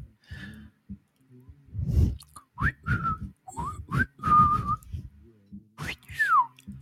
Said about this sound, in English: Whistles and bleeps, and that's a language.